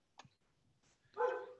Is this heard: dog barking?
yes